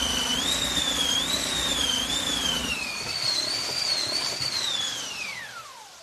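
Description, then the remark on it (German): A replica hand-cranked wind machine, a piece of cloth scraping over small wooden crossbars on a turning wheel, imitating storm wind: a loud, steady rushing roar with a whistling howl that wavers up and down in pitch, then sinks and fades as the cranking slows. “Und mit einer ganz besonderen Maschine machte man Windgeräusche.”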